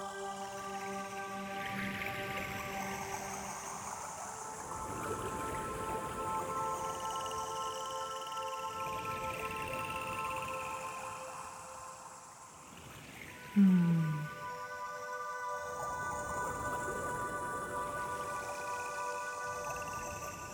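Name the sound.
dolphin calls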